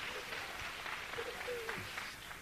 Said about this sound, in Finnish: Es lindo aplaudir al Señor. On ihanaa, että me saamme hänelle ylistystä, me kaiuttaa ja myöskin antaa aplodi.